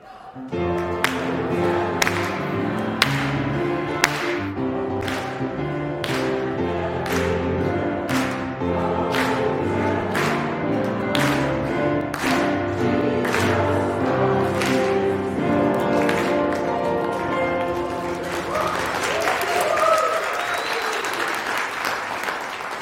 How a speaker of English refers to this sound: Come on, clap. Ready? Let's go.